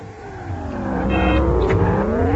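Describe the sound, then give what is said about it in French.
A race car engine in a video game race between a blue car and a red car revs steadily, its pitch climbing in smooth harmonic sweeps as it accelerates, loud and continuous with a slightly synthetic tone and no voices. “sa voiture, c'est la bleue, tandis que celle de Laurent le testeur, c'est la rouge”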